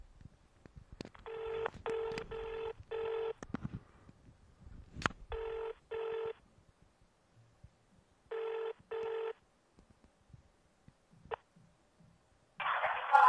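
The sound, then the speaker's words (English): Telephone keypad tones beep as someone redials the 999 emergency number, short, evenly spaced bursts, about eight presses grouped in clusters with pauses between, clear, followed by a brief rush of line noise at the end. “Hang up. I'll redial 999.”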